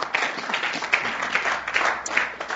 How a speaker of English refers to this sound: And were you trying to clap for the Lord or trying to clap for me or what? Just clap properly.